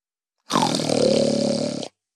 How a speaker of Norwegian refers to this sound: Mine søvnige damer og herrer, nå snorker han så høyt at de andre deltakerne ikke klarer å sove.